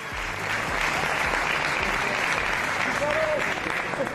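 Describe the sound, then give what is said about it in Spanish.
Sustained applause from a large audience at the Marca Leyenda awards gala in Madrid, as Real Madrid president Florentino Pérez embraces Cristiano Ronaldo; a dense steady wash of clapping for the whole stretch, with indistinct crowd voices and a brief shout of "fíchalo" rising within it. “Aplausos, un fíchalo que se oía por ahí, y es que el Real Madrid necesita fichajes.”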